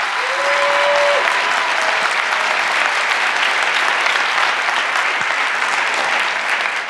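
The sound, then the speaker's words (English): Steady, dense applause from a large audience welcoming Julia Reda to the stage for her talk Copy Wrongs 2.0, a continuous wash of clapping at an even, fairly loud level with no voices rising above it. “And give a warm round of applause, please, for Julia Reda.”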